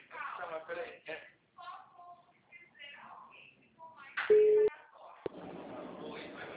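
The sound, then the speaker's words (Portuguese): A brief, steady mid-pitched telephone tone, like a line-dropped beep, sounds once and cuts off abruptly, with people talking before and after it over a thin, phone-like line. “tinha caído a ligação.”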